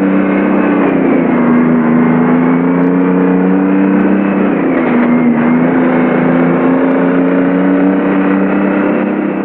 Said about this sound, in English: Coulter drives the police car ahead of him.